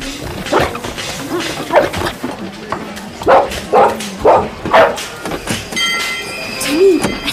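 A dog barks repeatedly, a series of sharp, excited barks in an uneven rhythm, with a brief whine and some background noise near the end.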